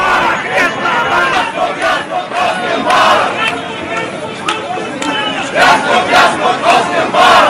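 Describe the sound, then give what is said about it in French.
A large crowd of Egyptian opposition protesters chants and shouts "Mubarak, leave!" together in rhythmic, rising bursts, voices massed into a dense roar that swells and dips steadily throughout. “Et les cris de Moubarak dégagent fleurissent dans les marges de l'opposition”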